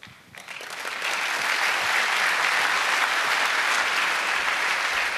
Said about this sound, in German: Vielen Dank. Genau, der Applaus stellvertretend auch an meine großartigen Kolleginnen